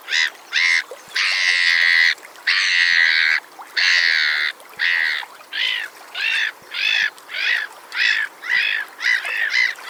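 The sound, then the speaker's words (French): Harsh, raucous black-headed gull calls: a few long drawn-out screeches, then a steady run of shorter rhythmic cries, loud with no other voices. “Je veux parler de la mouette rieuse.”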